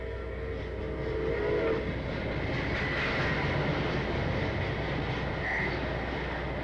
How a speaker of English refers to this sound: Those trains. Everybody says you'll get used to it. You don't get used to it? Gotten used to it, and it gets worse and worse every day. I'll be used to it in another 10 minutes. It's just horrible. They're all different, I'll say that.